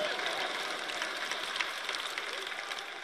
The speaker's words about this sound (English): And I'm glad you're clapping, but I want you to get this.